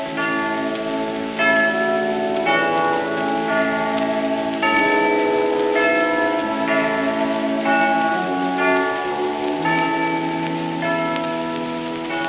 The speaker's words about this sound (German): Welch tiefe Summen, welch ein heller Ton, zieht mit Gewalt das Glas von meinem Munde. Verkündige ihr dumpfen Glocken schon des Osterfestes erste Feierstunde.